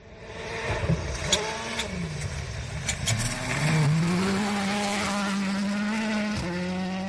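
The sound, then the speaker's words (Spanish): A Citroën C3 rally car driven by Loeb on gravel stages in Almería: its engine screams, pitch rising and falling as it revs hard, briefly drops off while sliding, then surges again under full acceleration, with gravel noise throughout. “Pues vamos a escuchar a Messi Loeb en Tierras de Almería, a todo correr con su Citroën C3.”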